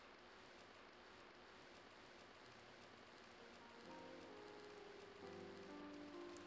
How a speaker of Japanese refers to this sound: こんにちは。すごい雨だね。ここで雨宿りもいいけど、あまり雨を防げていないみたいだし、せっかく傘があるから一緒に入らないかい。